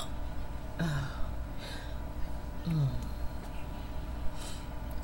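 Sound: hiccups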